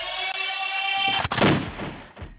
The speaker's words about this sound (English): So, you know, literally, like, these gunshots are play, but my real guns, they work